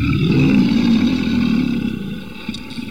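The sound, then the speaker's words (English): An attacking mountain lion lets out a loud, drawn-out roar. The deep, rumbling snarl holds for about two seconds and then fades into a quieter growl. “And as we walk further on, we stumble upon the dreaded and dangerous mountain lion. The lion attacks.”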